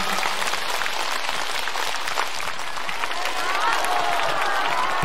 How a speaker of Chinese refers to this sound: 让我们再次以热烈的掌声感恩大慈大悲的观世音菩萨，感恩大慈大悲的卢军宏台长。